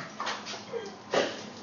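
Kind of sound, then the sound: animal, dog whimpering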